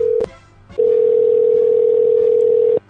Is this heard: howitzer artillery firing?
no